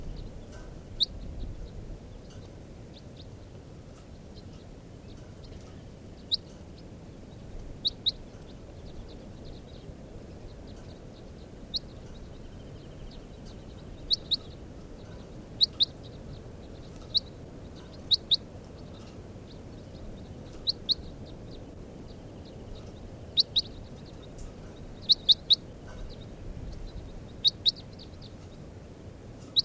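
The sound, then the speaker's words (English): Short, high-pitched chirps of a netted bird, recorded as bird number 443, repeat in irregular bursts over a steady low rumbling background, each call brief and fairly faint, with no voices present. “Caught two birds out of that flock.”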